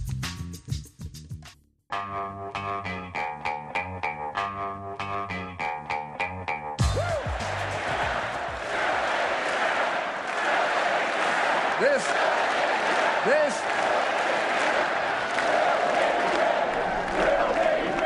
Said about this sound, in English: No, they're not chanting USA, USA. If you couldn't make it out, that, of course, is a crowd of McCain-Palin supporters joining the Republican ticket's rallying cry for expanded domestic oil production. They were chanting, drill, baby, drill.